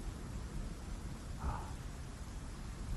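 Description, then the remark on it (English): Steady rain, the first of the season, falls outside an open window of a diner, a soft, even hiss with a low rumbling undertone and one brief brighter patter midway. No voices. “It's raining here at the diner. First rain of the season, as far as I can tell.”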